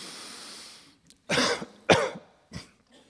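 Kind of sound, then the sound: human body sound, coughing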